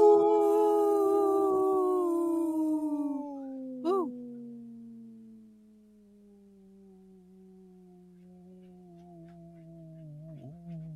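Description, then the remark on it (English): A person imitates a wolf, holding one long, steady howl whose pitch slowly glides downward over about ten seconds, with a brief wavering break partway through. “Very strong, healthy wolf right there.”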